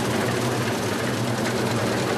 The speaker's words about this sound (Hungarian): Így aratnak ma légkondicionált kombájnnal.